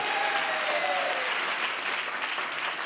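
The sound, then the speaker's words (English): A crowd applauds steadily, a dense wash of many hands clapping at an even, fairly loud level for about three seconds, with faint voices and cheers mixed in. “Clap it up for him.”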